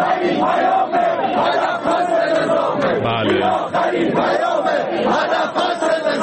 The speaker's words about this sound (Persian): البته دیگه خیلی هم اهمیتی نداره چون مردم معترض حرفاشون رو خیلی بی‌تعارف و بی‌پرده فریاد زدن تو گوش نظام اینجوری مثلا.